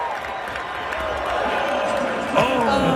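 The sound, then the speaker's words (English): An ice hockey arena crowd at a Predators game reacts as a man slips and falls face-first on the ice: a dense, steady roar of many overlapping voices that swells suddenly into a louder collective outcry near the end. “Listen to the crowd.”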